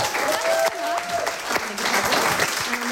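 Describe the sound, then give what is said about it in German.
Sustained audience applause fills the space, a dense wash of clapping hands with a few cheers and whistles rising through it, fairly loud and steady for the whole stretch. “Großen Applaus”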